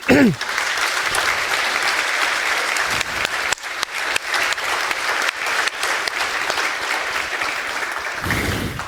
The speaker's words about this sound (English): And I think this is a big applause.